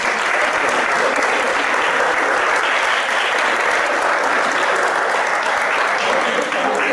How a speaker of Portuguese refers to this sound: Muchísimas gracias. Un aplauso, por favor.